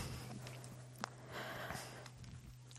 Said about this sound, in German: Ich muss nämlich ganz dringend meine Nase putzen.